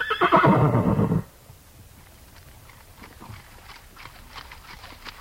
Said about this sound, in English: The Nez Perce and the government officers from the Clearwater National Forest mixed along in single file, their horses moving at a walk, mostly.